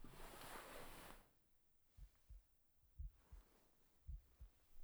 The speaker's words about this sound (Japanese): ママの心臓の音、ドクンドクン。